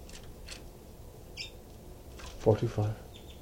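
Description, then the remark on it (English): Two birds chitter to each other: soft, high-pitched chittering calls come in short bursts, scattered across a few seconds, with a quick cluster near the end. The calls sound fairly faint against a low background, and a brief murmur of voice joins in. “They're just chittering to each other.”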